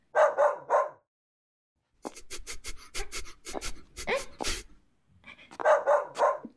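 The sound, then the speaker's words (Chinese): A male dog named Duoduo barks: three quick barks, a brief pause, then a rapid flurry of sharp yapping barks, followed by another short burst of barks. No one speaks. “对呀，他是条公狗哈，也到时候了。”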